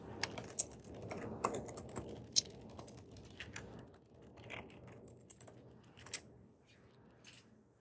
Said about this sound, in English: Just typing up information here.